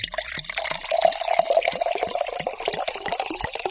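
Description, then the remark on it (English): Relatively cold water pours and sloshes into a basin, a steady splashing stream with small bubbly bursts throughout, moderately loud and with no voices. “One basin with relatively cold water.”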